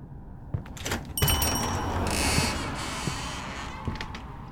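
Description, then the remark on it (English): A door creaks on its hinges and swings shut with a few soft knocks and rattles, no voices present. “Nobody around here knows how to close a goddamn door?”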